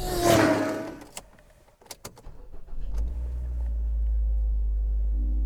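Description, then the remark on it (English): A brief chime rings out inside a Mazda 3 as the dash lights up and types out hello, followed by a few sharp clicks and knocks, then an engine starts and settles into a steady low idle. “Did you hear that little bling bling? We're back in the Mazda 3 again.”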